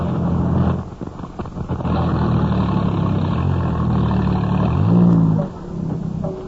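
Professor Nicholsworthy's car engine rumbles steadily as he stops his car, rising in a short rev near the end before easing off as the vehicle pulls in and settles. No one speaks.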